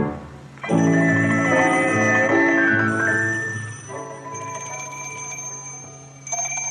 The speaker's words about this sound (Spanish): Tío, está sonando el teléfono. Está sonando.